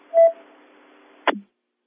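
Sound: car alarm going off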